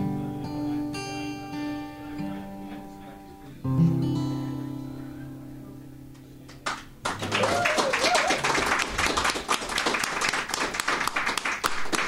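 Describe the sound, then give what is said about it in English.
A sung melody fades out, then loud applause for the musicians breaks out: many hands clapping densely and steadily, continuing to the end with a few voices mixed in. “I'm going to clap for you guys.”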